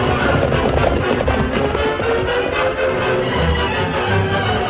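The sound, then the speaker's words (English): Two horses, Silver and Scout, gallop down from a cliff carrying their riders. Their hooves drum in a dense, rapid clip-clop that keeps a steady loudness throughout, with no voices over it. “As Silver and Scout bore their riders down from the cliff”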